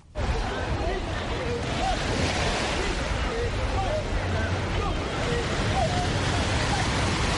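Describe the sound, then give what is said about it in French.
Ocean surf rushes in a steady, dense roar along a beach at Angor, Dakar, Senegal, with no single wave standing out, while faint, indistinct voices drift through the wash in the background. “Des personnes du troisième âge et celles victimes d'AVC commencent à l'adopter pour soigner leurs maux tout en profitant des vagues.”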